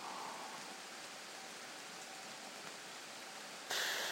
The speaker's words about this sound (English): So all we know is it's raining. It's raining, and there's a thunder sort of flash of lightning.